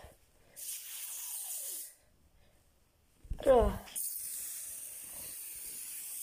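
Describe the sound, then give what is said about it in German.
Two bursts of aerosol spray hissing, the first about a second and a half long, the second starting after a short pause and running to the end, with a brief voice between them; the can keeps spraying back toward itself. “Sprüht immer gegen sich selbst.”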